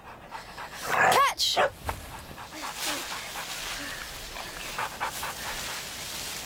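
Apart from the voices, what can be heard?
dog panting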